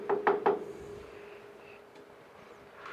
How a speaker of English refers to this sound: A courier rides through the gate and up the walk, dismounting next to a sign that reads, Bolton Manor. He knocks at the door and is greeted by a servant.